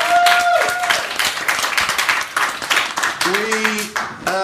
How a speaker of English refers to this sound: And that's the end of the round. Round of applause as well.